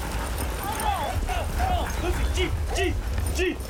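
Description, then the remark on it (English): A pack of sled dogs barks and yips excitedly, short overlapping calls repeating every fraction of a second over a steady outdoor rumble, lively throughout. “Good dogs. Good dogs.”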